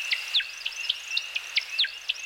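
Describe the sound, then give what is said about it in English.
A male woodcock's display song: a rapid, rhythmic series of about ten high liquid chirps over a thin, steady twittering, moderately faint, with no voices. “Let's listen to the Timberdoodle one more time.”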